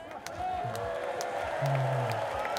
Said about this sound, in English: If the guys in the band room would like to meet you guys, so guys, this is the crowd.